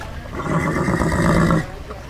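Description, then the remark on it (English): A horse whinnies in one long, wavering neigh lasting over a second, fairly loud, at a home with a corral on a hill overlooking the desert, then it cuts off, leaving quiet background noise. “There's two horses, three horses maybe.”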